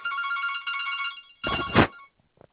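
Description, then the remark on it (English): A telephone rings with a warbling, trilling tone for over a second, then a brief loud rattling burst and a few faint clicks follow. There is no talking. “Hang on, so I'm just on the phone, might be a moment.”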